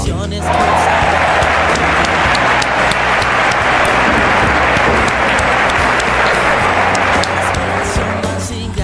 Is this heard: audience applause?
yes